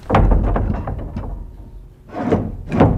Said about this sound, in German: So, jetzt gehen wir in die Kapelle hinein. Wir öffnen die Tür.